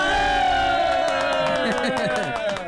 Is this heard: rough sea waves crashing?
no